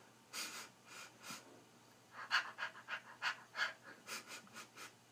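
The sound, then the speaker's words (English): A person imitates a dog panting: quick, breathy huffs in a steady rhythm, about a dozen moderately loud puffs that speed up in the second half, with no talking. “I'm a good little doggy.”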